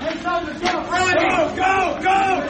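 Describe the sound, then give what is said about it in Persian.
A panicked crowd fleeing after a deadly shooting in El Paso, Texas, shouting and screaming together, a dense wall of raised voices that swells in waves, with sharper high cries breaking through the continuous din. “فرار مردم پس از تیراندازی خونین در شهر الپاسو در ایالت تگزاس.”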